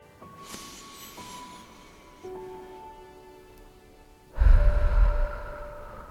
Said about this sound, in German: Und einfach tief durch die Nase einatmen und durch den Mund aus.